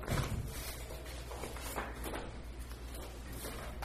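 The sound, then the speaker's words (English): A faulty trick chair is shifted, bumped around and shoved aside at a Council Township of McKellar meeting, giving a few soft knocks and scrapes at an uneven pace over a steady low background hum. “That's that trick chair. Yeah, I got it up so it's not too bad. We'll shove it aside for now.”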